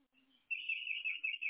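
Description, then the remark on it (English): Birds chirp in a steady, warbling stream of high-pitched notes, soft, starting after a brief quiet moment and continuing to the end with no talking. “I thought I heard birds chirping in the background.”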